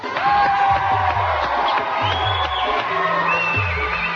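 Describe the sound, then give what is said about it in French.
A studio audience applauds and cheers loudly for the winning contestant of a French-language TV game show round, dense clapping filling the whole stretch with whoops and shouts rising over it, no pause in the noise. “on l'applaudit.”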